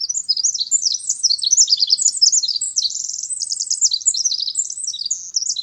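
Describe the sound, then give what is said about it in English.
A small songbird, such as a winter wren or song sparrow, pours out a long, rapid stream of high trills and twittering notes, continuous, with no voices or other sounds. Resident backyard birds in full song in late February. “Luckily for us, resident backyard regulars like winter wrens and song sparrows are often in full voice in late February.”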